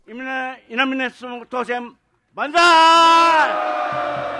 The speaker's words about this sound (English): A cheer goes up for Susumu Inamine, mayor-elect of the small city of Nago. At his headquarters Sunday night, supporters congratulate him and then dig into platters of sashimi and tempura.